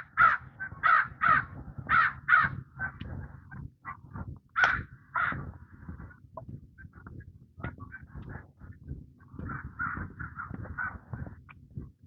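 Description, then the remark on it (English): A crow caws repeatedly in harsh bursts, a quick series early on, then scattered calls and a later run of caws, clear over low outdoor rumble. “And another crow.”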